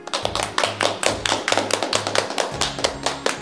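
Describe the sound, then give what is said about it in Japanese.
A small crowd applauds steadily after a countdown, as LED lights inside bumpy fibre-craft pieces are lit up. A dense patter of overlapping claps runs the whole time, with a low steady hum underneath and no voices. “拍手。”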